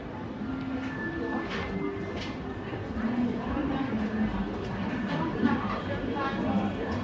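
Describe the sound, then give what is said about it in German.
Busy railway station ambience with a passing train: a steady rumble of trains and rolling carriages, with scattered clatter and indistinct voices murmuring throughout, fairly loud and continuous. “Ich würde es auch verkaufen für so Hintergrundhörspiele, wenn man irgendwie am Bahnhof ist, weil es fängt so klischeehaft an.”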